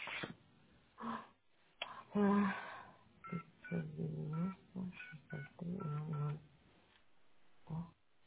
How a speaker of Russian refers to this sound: Идет звонок. По-моему, да. Пошел гудок, да.